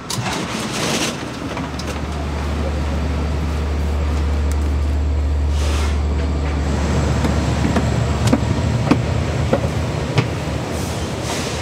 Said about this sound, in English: We just got onto a fancier train with higher headrests and two stories and a bathroom.